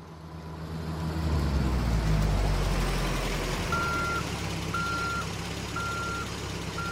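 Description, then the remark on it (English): A large truck's diesel engine rumbles heavily, then a steady series of high backup beeps begins at a regular, unhurried pace as Fisheries and Oceans Canada workers reverse the truck up to a dam on the St. Croix River in St. Stephen, New Brunswick, in spring 2001. “Workers for Fisheries and Oceans Canada back a truck up to a dam on the St. Croix River in St.”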